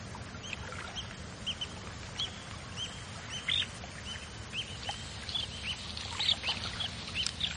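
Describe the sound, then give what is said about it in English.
Many water birds call and chirp across a coastal lagoon in South Africa, short overlapping cries, over a steady low rumble of wind and water, with no voices. “It is a huge nursery for fish and a giant aviary for birds.”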